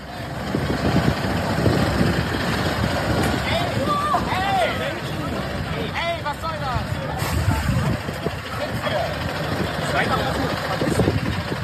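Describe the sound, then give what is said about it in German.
A heavy truck engine idles with a steady low rumble while a crowd of protesters talk and shout over it throughout. “Sechs Wochen vor der Veröffentlichung dieser Folge hat in Stralsund ein LKW-Fahrer einen Aktivisten angefahren.”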